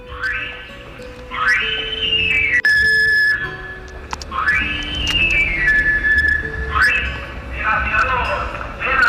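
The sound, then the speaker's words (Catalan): A travelling knife grinder's whistle, a street call heard in the village, plays its shrill, rising run of notes that settles into a held high tone, repeated three or four times over a steady low background murmur. “En bicicleta o en moto, l'esmolador passava de tant en tant pel poble, sobretot cap a la tardor o l'hivern, quan havia de fer-se la matança del porc i el veïnat havia de tindre els ganivets i les tisores ben esmolades.”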